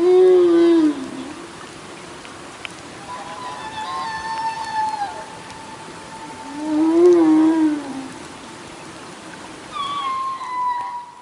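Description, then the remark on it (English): A humpback whale in Glacier Bay, Alaska sings a series of long, sweeping moans and rising, whistling calls, some low and swooping, others high and wavering, over a steady underwater hiss. No voices are heard. “This is a humpback whale recorded in Glacier Bay, Alaska.”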